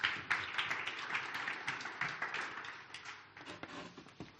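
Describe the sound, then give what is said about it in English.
An audience claps hands to Jesus in a dense, sustained wash of applause, many hands fairly loud, fading slightly toward the end with a few scattered claps. “Come, let's clap our hands to Jesus.”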